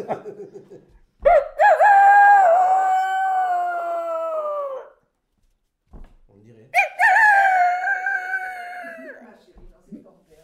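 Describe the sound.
A person imitates a rooster crowing twice, each call a loud, drawn-out, strained cry of a few seconds with a brief pause between, followed by faint murmuring.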